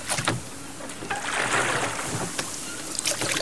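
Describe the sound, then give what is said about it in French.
A small rowboat, detached from a black sailing ship, approaches over open water, oars splashing in a loose rhythm of strokes against a steady wash of water and light wind, with no voices. “Une chaloupe s'est détachée et s'est approchée de moi.”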